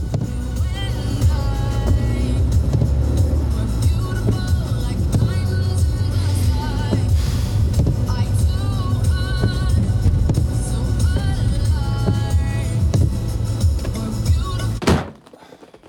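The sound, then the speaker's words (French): A car engine runs steadily throughout, a loud low rumble with changing tones layered on top, then cuts off abruptly near the end, leaving a quieter hum. It is Lucas Soultier's personal car, at 11:25 pm. “Voiture personnelle de Lucas Soultier.”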